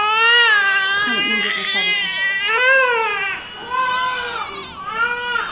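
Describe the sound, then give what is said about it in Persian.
Several babies cry at once, loud, high-pitched wails overlapping in a continuous chorus, with breathy sobs between rising and falling cries. “این بچه ها یکیشون که گریه بکنه پشت هم گریه میکنن.”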